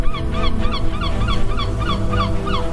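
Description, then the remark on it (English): Seagulls flying over the beach in Gaza at sunrise call over and over in a quick, steady series of sharp, nasal cries, fairly loud, above a constant low rumble like wind or surf. “Seagulls flying over the beach.”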